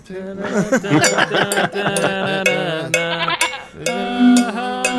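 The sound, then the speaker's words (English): A goat bleats loudly and repeatedly, with sharp metallic bell clinks ringing out at irregular intervals through the bleats, continuous for several seconds. “Need more goat bell. More goat bell.”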